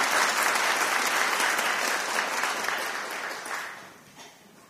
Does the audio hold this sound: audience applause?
yes